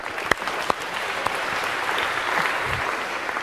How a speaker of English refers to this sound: So a big round of applause if we can for these four.